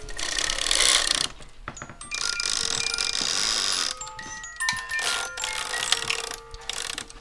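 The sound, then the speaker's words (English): A cuckoo clock chimes several bright, ringing tones in a loose sequence, moderately loud, over a steady mechanical whir and background hiss, with no one speaking. “Cuckoo clocks, I don't know if we, oh, here's one.”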